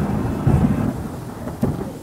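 A deep, continuous rumble of thunder rolls through, swelling in two heavier bursts, with a faint rain-like hiss beneath and no voices.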